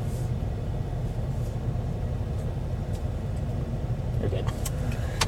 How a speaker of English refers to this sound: All right, so that's been the car ride home for A Quiet Place day one.